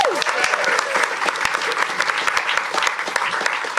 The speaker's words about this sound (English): Round of applause for ….